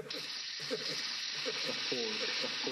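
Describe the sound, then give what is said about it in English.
Warm coals in a fire inside a fort crackle and hiss in a steady, dense sizzle with fine popping texture throughout, while low murmuring voices sit faintly underneath. “No, this is just some warm coals in the fort.”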